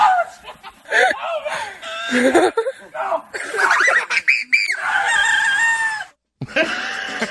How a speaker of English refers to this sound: A guy immediately regrets jumping into a chicken coop to confront a rooster. You jump in his coop, he's got an attitude.